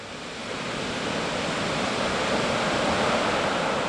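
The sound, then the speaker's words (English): Steady, roaring ocean surf near the Pacifica Pier as a storm approaches, in light drizzle. A dense wash of breaking waves swells slightly louder in the first second and then holds constant and powerful, with no voices. “Down near the Pacifica Pier, people are starting to gather to watch the incoming storm.”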